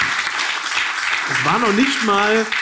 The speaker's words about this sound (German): Applaus. Komm.